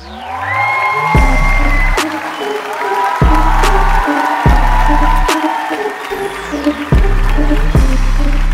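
A large audience on the TV show Rap Việt claps and cheers steadily throughout, with whoops rising from the crowd while a pounding bass beat thumps underneath in regular bursts.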